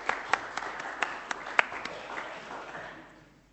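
A short burst of applause from a small group, dense crackling claps with a few sharper accents, holding steady for a couple of seconds before thinning out and fading away.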